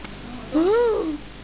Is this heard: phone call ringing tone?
no